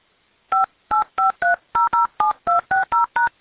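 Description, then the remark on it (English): A rapid string of about eleven touch-tone keypad beeps, each a short dual-tone burst, entered in a quick, slightly uneven rhythm with brief gaps between presses, with no talking. Someone enters a 10-digit phone number with area code, followed by the pound key, on an automated phone payment line. “If this is correct, press 1 or press 2 to please enter your 10-digit daytime contact phone number along with the area code followed by the pound key.”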